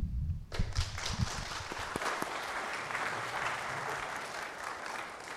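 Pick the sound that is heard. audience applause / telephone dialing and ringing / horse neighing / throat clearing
audience applause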